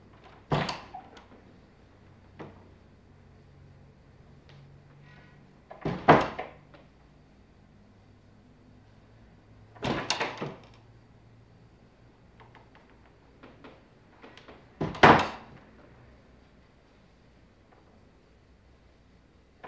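Interior apartment doors open and close several times, with sharp thuds and latch clicks spaced a few seconds apart, moderately loud. No one speaks.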